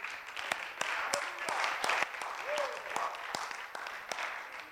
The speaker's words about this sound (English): Let's give God a hand clap of praise, and you can be seated.